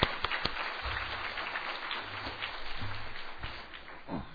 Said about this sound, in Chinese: 那我们都是老朋友，好，非常高兴，大家鼓掌欢迎新来的。